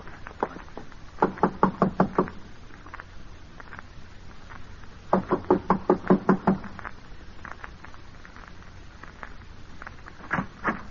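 Two quick bursts of firm knocking on a door, about six raps each, with a pause between, then a few softer scattered taps; fairly loud, no voices.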